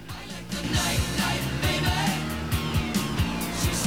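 A car is started and cruises down a street, its engine humming steadily with a low rumble that rises and dips in short repeated surges over a constant wash of road noise, fairly loud.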